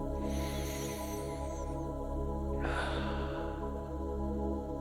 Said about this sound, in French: Prends trois grandes respirations. Inspire profondément par les narines, puis expire par la bouche.